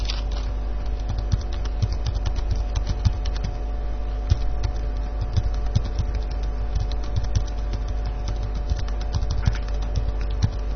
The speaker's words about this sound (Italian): Possiamo sentire il rumore della tastiera mentre digiti la password?